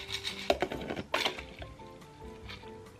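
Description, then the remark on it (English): Ice cubes clatter and slosh in ice water inside a Stanley tumbler cup, with a few sharp clinking bursts followed by softer rattling as the water swirls; no one speaks. “Personally, I've never been one for tap water, so I love this noise.”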